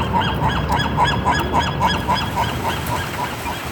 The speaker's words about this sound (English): Seagulls in Santa Barbara.